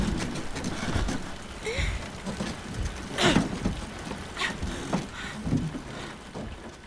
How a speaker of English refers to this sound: The rain made everything slick and hard to hold on to.